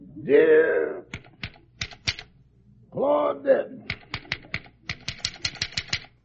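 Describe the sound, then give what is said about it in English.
Sharp, crisp typewriter keystrokes clatter in quick, uneven bursts, broken up by two short stretches of a voice speaking. Rochester types at the typewriter while Jack dictates a letter, at Jack's house in Beverly Hills. “At the moment, Rochester is at the typewriter while our little star is dictating.”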